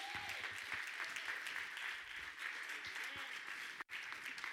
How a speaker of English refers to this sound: Amen? Get a little hand clap.